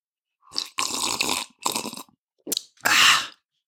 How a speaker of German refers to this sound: Genau, ich schlürfe dabei von meinem Kaffee.